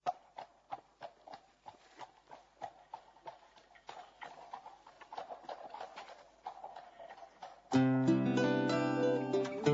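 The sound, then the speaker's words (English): Horse's hooves clip-clop in a steady, even rhythm of sharp knocks for about eight seconds at the start of a song, then loud music with sustained tones suddenly takes over. “I should warn you that the song starts with the sound of a horse's hooves.”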